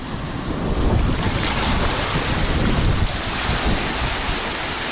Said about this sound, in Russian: Немножко затягивает, вы знаете, вроде так ерунда ерундой, а немножко затягивает, когда вода тут движется туда-сюда.